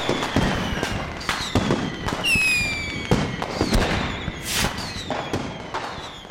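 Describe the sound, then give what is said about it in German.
New Year's Eve fireworks and firecrackers bang repeatedly in sharp, overlapping bursts, with whistling rockets streaking upward between the explosions. The display is dense and irregular, some cracks loud, others quieter. “Zum Beispiel das Vertreiben böser Geister mit lautem Knallen.”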